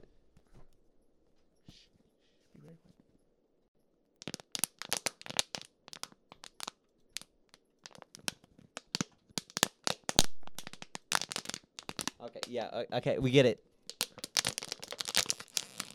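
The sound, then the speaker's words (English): A plastic water bottle crinkles loudly in rapid, irregular bursts of sharp crackles for about twelve seconds, following a brief quiet moment where someone speaks softly. “Sound, or this like the like, sounds like is like, what, like crinkling. Do we have a water bottle in here?”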